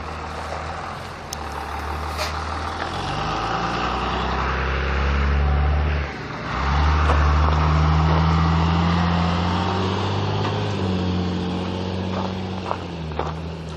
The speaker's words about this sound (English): Oh, I'm going to have to wait for this school bus.